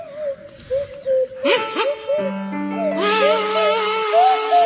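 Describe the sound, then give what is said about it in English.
A swanee whistle slides up and down through a wobbly tune while a buzzing kazoo joins in, both loud, with a steady low note droning underneath for the second half. “provide us with a rendition of Shall We Dance to feature Sandy Toksvig on the kazoo and Tim Brooke-Taylor on the Swanee whistle”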